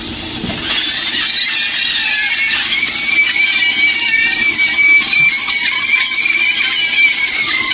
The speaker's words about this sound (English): It sounds, sounds like a school's on fire. No, it sounds like when a roller coaster is going by. Yeah. And people are screaming.